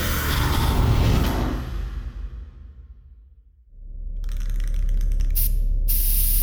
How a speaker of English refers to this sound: No one needs to see Axel was here spray-painted everywhere they look.